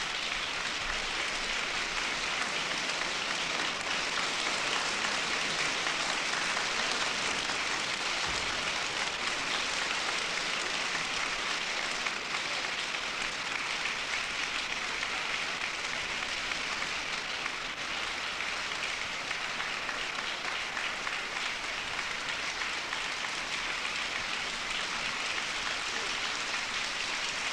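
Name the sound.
concert audience applause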